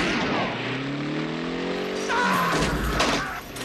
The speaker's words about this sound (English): The truck plows straight through Tony, taking the gate with it.